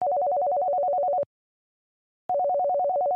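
A phone call ringing tone: two bursts of a rapid, warbling trill alternating between two mid-pitched notes, each lasting about a second with a short silent pause between, steady and moderately loud.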